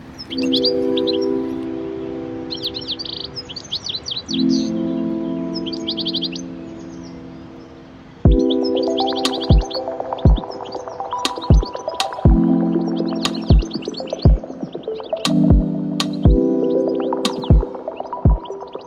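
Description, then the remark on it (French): Bright, rapid bird chirps come in repeated bursts over a steady tonal hum, and from midway sharp clicking knocks punctuate the scene at a fairly regular pace. “Et c'est vrai que cet oiseau, j'ai trouvé, était magnifique.”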